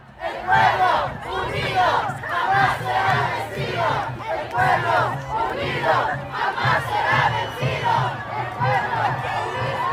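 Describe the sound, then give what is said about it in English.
A large crowd cheers and shouts outside the Supreme Court in Washington, D.C., as dozens of DACA registrants emerge from the court building after the arguments, a dense, loud roar of many voices rising in repeated surges with chanting-like swells, continuing steadily for the whole stretch. “Here are the sounds of cheers as dozens of DACA registrants emerged from the court building after sitting through the arguments.”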